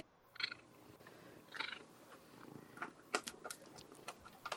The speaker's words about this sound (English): Oh, she growled. Oh, God. No, I don't know that she did. I didn't think she growled, but she purred.